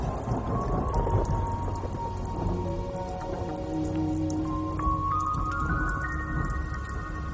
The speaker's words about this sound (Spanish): Es tiempo de tormentas. Y no solo en el desierto.